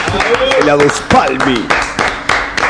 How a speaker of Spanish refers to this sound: Y extendemos el aplauso porque acaba de llegar el verdadero del rock.